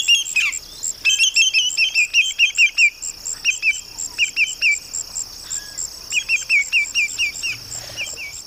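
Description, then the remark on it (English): Greater Yellowlegs calls ring out as loud, clear whistled notes in quick descending runs of three or four, repeated again and again over a steady high insect drone. “So now let's listen to the calls of the Greater Yellowlegs.”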